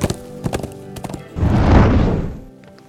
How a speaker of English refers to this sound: Withers was mounted and galloping away.